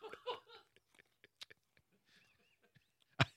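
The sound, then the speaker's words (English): Crunching and chewing of a hard sardine-flavored candy cane, a series of sharp cracks and bites with one loud crunch near the end, mixed with a burst of laughter at the start. “Are you actually going to chew the whole thing”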